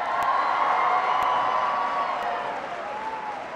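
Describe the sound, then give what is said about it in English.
A large audience gives a big round of applause for a speaker who is about to retire, applauding and cheering steadily, with dense clapping and scattered shouts and whoops throughout, fairly loud and sustained before easing slightly toward the end. “He's about to retire soon, so give him a big round of applause.”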